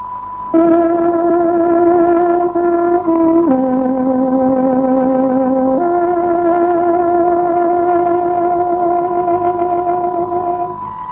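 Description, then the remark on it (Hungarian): A radio time signal on the Voice of Free Hungary (Szabad Magyarország hangja) station, played on a tárogató to mark 18:00: three long, steady reedy notes, the middle one lower, sounding alone and loud for about ten seconds with no talking. “Tárogatónk 18 órát jelez.”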